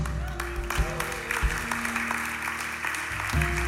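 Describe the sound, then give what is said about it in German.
An audience applauds a preached message, clapping steadily in a dense, sustained wash of applause, with a low hum and a few faint scattered voices underneath. “Und was ich dir jetzt wünsche, dass dieser Applaus sich verwandelt in eine Entscheidung.”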